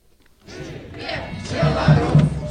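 A protest crowd roars into life after a brief quiet start, a dense wash of many voices shouting and chanting that swells louder, with a few strong low bursts rising above the din.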